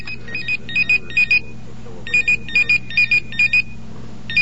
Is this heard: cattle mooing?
no